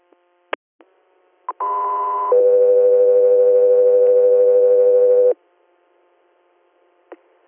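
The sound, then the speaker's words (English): A loud two-tone dispatch paging alert for three air medical units: a short higher steady tone steps down to a long lower tone held for about three seconds, framed by a few sharp radio clicks before and after. “3 Airs, stand by for tones.”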